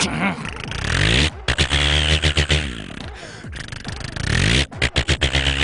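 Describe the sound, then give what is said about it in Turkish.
A person imitates a tractor engine with their voice, a continuous rumbling drone that rises and falls in pitch as if revving, broken by a few brief pauses and sputtering bursts. “Bu da traktör.”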